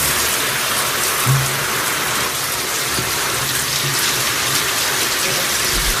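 A shower runs steadily, a dense hiss of spraying water that stays even throughout, with a few low thumps and gurgles underneath and no one talking; someone is showering while washing dirty clothes in the shower.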